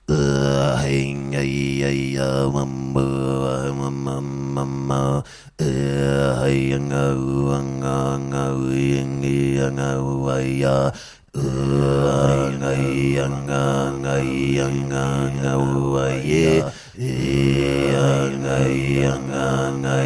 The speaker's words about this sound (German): Also das ist jetzt ohne Effekt, das ist wirklich meine echte Stimme. Es klingt, als würde ich rülpsen, aber es ist wirklich, es ist Kehlkopfgeräusche.